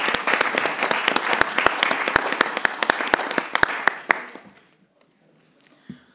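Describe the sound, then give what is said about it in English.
A crowd claps in a dense round of applause to congratulate a new chair and two new vice chairs, with sharp, scattered hand claps for about four seconds, then it fades quickly into near silence with a faint knock at the end. “I would like to suggest at this point maybe a brief round of applause to congratulate them.”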